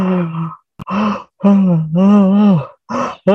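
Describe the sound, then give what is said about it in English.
A voice imitates a long, drawn-out yawn in several close, fairly loud groaning bursts, the longest sustained one in the middle, with brief breathy pauses between and no words spoken. “And then as Hanuman left and went, Lord Ram yawned.”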